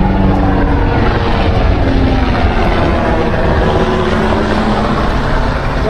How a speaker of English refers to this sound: chopper above here.